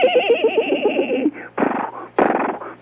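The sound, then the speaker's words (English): A person does a loud vocal imitation of a horse whinny, a fast quavering warble lasting about a second, followed by a few breathy, snorting bursts. “Show the folks how you whinny. I can whinny.”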